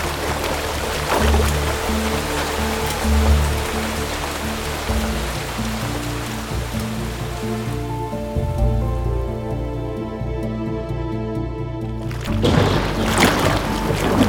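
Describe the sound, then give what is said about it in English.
Heavy rain from a storm pours down steadily with splashing water, a dense hiss that stays loud throughout, with low sustained tones humming underneath and a brief thinning of the noise near the end. “It's hard to see through all this rain.”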